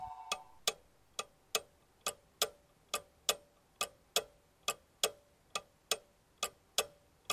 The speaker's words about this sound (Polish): Zegary kuśtykały swoim rytmem. Uspokajały, a jednak kłamały.